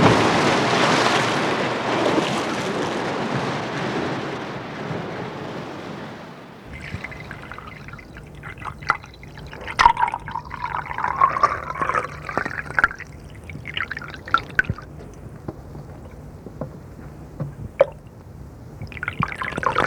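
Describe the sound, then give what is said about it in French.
Liquid trickles steadily from a running alembic still, a rudimentary old machine run by an artisan for the region's wine-growing farmers, with small drips and gurgling tones, after a few seconds of loud, rushing hiss at the start. No one speaks. “Rudimentaire mais efficace, l'alambic tourne inlassablement pour le plus grand plaisir des paysans viticoles de notre région.”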